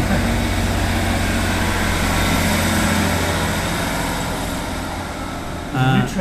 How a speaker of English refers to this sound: Just on its way to Manchester, I believe, or possibly that's the Wigan train, depending on the time. Just to prove that trains do actually stop here still.